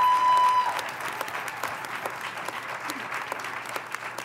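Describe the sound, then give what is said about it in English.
An audience applauds athletes, a dense, continuous patter of many hands with scattered sharper claps, fairly loud and holding at an even level without talk over it. “So please join me one more time in giving a round of applause for all of these amazing athletes.”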